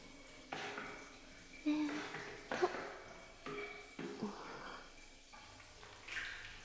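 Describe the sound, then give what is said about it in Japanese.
Wet washing sounds of soapy water and rubbing on skin as someone's body is washed with soap, coming in several soft bursts with brief pauses between them and faint breathy noises underneath. “では、お体の方、 洗わせていただきますね。”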